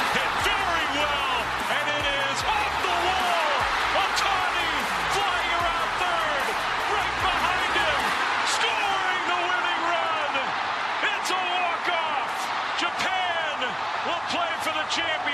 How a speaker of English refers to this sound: And the crowd goes wild, as they did on Saturday night when the U.S. came back, well, actually jumped out early and then came back to win against Venezuela, putting them in the World Baseball Classic final.